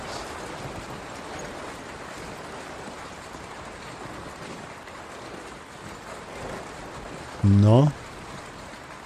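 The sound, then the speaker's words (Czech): Hail pours down from a roof gutter in a steady, dense rattling rush that never lets up. Near the end, a person briefly speaks over it. “To padají ty troupy z okapu. Místo vody z okapu.”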